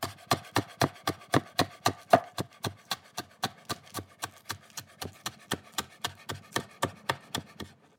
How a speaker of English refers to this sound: Last thing I need to do is chop my chives.